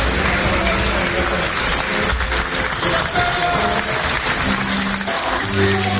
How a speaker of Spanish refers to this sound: Aplausos, música y gritos de viva Ucrania.